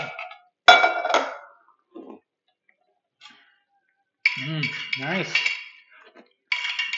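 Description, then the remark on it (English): Clinking and rattling of ice cubes in a bottle, coming in a few loud bursts separated by quiet pauses, with a brief gurgling shift in tone midway. “With those few ice cubes, I have a full bottle.”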